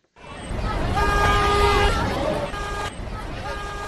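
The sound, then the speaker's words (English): More than 100 drivers at a filling station in the Etudi neighborhood of Yaoundé, Cameroon, honk their car horns repeatedly and overlapping to protest a fuel shortage, in a loud, busy outdoor scene with a crowd murmuring and engines idling underneath. “More than 100 drivers park a filling station in the Etudi neighborhood of Cameroon's capital, Yaoundé, Friday, honking their horns to protest a fresh fuel shortage.”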